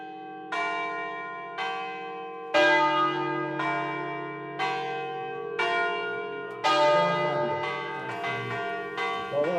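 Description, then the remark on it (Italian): Church bells ring out in the bell tower of the church of Santa Maria del Sasso, repeated strong strikes roughly every one to two seconds with long, rich overlapping hum, building into a denser cluster of peals toward the end. No voices. “dove il rito di suonare le campane si trasforma anche in un rito di convivialità e condivisione, complice la presenza all'interno del campanile della chiesa di Santa Maria del Sasso di un vano con un camino, un tavolo e delle panche di legno.”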